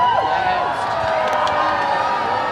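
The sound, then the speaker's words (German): A large crowd of 5,000 to 10,000 people cheers continuously outdoors on Hamburg's Rathausmarkt in dreary, wet weather as King Charles and Camilla step onto the town hall balcony, a dense wash of many voices shouting and whooping together at steady, fairly loud volume, with a few higher cries rising above the roar. “Jubel, als sie zusammen mit Bundespräsident Frank-Walter Steinmeier und Bürgermeister Peter Tschentscher auf den Rathausbalkon traten”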